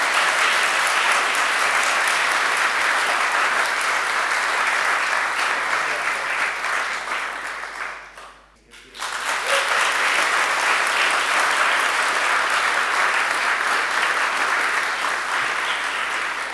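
An audience claps steadily in a dense, sustained round of applause as boys are presented with their Queen's badges at First Lisburn BB, briefly dying down about halfway before swelling back up into a second long burst of clapping.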